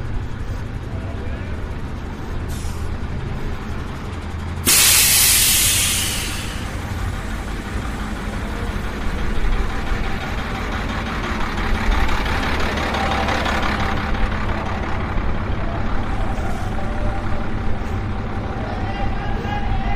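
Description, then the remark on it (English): A bus engine idles steadily at a bus interchange with a low, constant rumble, joined briefly by a sharp hiss of air brakes, while voices murmur in the busy surroundings. “Now I'm in what you could consider to be the bus interchange.”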